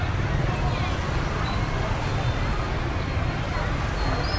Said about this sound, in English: Now, I'm just walking past a school and their kids are all getting picked up right now.